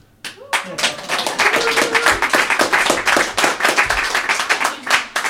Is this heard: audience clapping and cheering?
yes